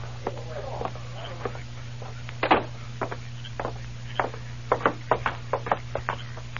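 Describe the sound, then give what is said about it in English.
Knocking on a door: sharp wooden raps in loose, irregular bursts, a single loud knock and then quicker clusters, over a steady low hum. “It is the door.”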